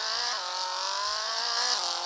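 car engine

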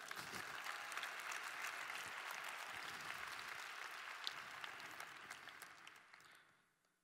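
audience applause

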